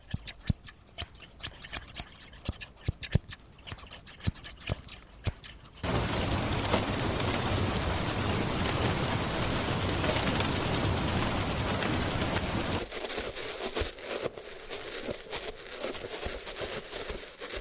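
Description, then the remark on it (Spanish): Steady, dense rain hisses loudly for several seconds, after a run of sharp crisp snipping clicks and before giving way to brighter, scattered tapping. “En este caso se trata de unas tijeras de peluquero, la lluvia y los golpes de una mano con unos guantes de metal.”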